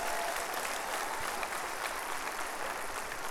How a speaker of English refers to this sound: Now clap your hands and give God praise. Come on.